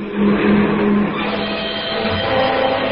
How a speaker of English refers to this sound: Wait. Huh? Here comes a car.